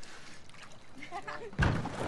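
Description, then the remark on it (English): Water laps quietly against a boat as it rocks, with faint murmuring voices, then a sudden louder slosh and splash of water near the end that keeps churning. “Suddenly, it begins to rock again.”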